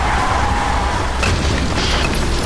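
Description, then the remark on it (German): A skidding garbage truck slams into a lock gate: a loud, sustained booming crash with deep rumble and harsh noise, plus sharper metallic impacts partway through. No one speaks. “Oh, Volltreffer, direkt in das Schleusentor.”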